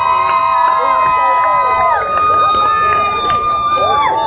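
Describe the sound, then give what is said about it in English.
A church crowd cheers loudly and continuously for the Open Doors ministry, many voices shouting and whooping over one another in overlapping rising and falling cries, holding steady for the whole few seconds without a break. “But let me hear some noise for Open Doors!”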